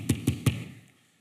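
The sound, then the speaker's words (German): Three quick knocks on a wooden door, evenly spaced, followed by a brief fading resonance and then quiet. “Aber wenn wir ehrlich sind, wenn er das tut, wenn er Türen schließt, stehen wir die ganze Zeit vor der Tür und machen den hier.”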